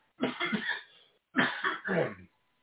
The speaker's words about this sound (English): Hold on while I clear my throat.